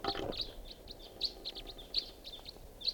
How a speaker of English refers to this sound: Sounds like a flock of crossbills flying over here.